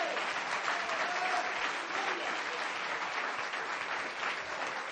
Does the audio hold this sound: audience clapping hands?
yes